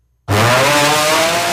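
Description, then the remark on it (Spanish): A loud, harsh snoring drone kicks in abruptly after a short silence and holds steady as one continuous rasping, buzzing roar with no pauses, sounding almost like a motor. “Perdón, que estás roncando, perdón.”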